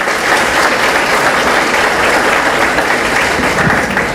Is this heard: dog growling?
no